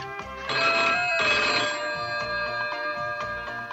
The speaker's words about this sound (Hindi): Phone बज रहा है, फोन उठाने की आदत नहीं रही क्या?